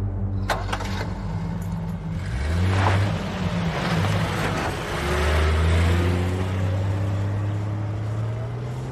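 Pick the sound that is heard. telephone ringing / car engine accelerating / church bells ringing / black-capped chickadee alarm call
car engine accelerating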